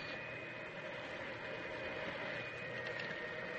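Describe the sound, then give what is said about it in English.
A toy electric model train with a variable speed rheostat and automatic signals runs steadily, its motor giving a continuous whirring hum with a faint high whine over a rumbling clatter, moderately loud, with no one speaking. “Let's see you train. It's all set up over here. It's got a variable speed rheostat, automatic signals, and it'll stop on a dime.”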